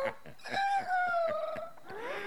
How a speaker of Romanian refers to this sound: Moșneagul, cum aude glasul cucoșului, iese din casă și când aruncă ochii spre poartă, ce să vadă?